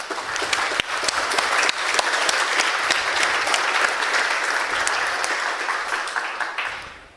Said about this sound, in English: So big applause to the Hochschule Bonn-Rhein-Sieg, please.